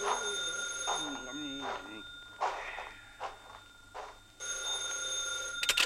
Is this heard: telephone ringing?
yes